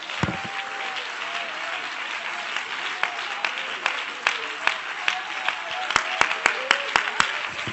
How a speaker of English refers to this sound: Clap your hands again unto the Lord in Jesus' name.